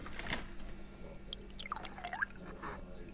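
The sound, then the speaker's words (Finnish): Raw milk is poured into a glass: a soft burst of liquid, then a quiet, uneven trickle with gurgling, bubbly tones that rise and dip in pitch, and no voices. “Sinne sitä nyt kaadettiin.”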